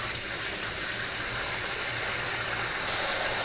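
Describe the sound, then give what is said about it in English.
Cold tap water runs steadily into a bowl of boiled eggs and ice, a continuous rushing splash with a bright hiss and no pauses, heard alone without any talking. “I'm gonna run a little more cold water on that.”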